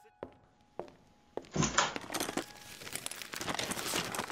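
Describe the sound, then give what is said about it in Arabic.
A few sharp knocks and taps, then a dense burst of paper crinkling and rustling that continues steadily as someone rummages through clutter looking for a box, finding papers and pens. “وين صندوقي كمان بين كل الكراكيب؟ وأخيرا أوراق وأقلام.”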